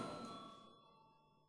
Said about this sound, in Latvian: Paldies, lūdzu zvanu.